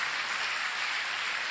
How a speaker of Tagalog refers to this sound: Palakpakan nga natin ng Panginoon, mga kapatid. Malakas sa palakpak para sa ating Panginoon.